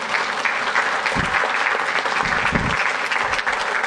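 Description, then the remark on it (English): A crowd claps steadily in a dense, even wash of applause that holds for a few seconds, fairly loud, with no voices standing out. “Give them a round of applause there, right?”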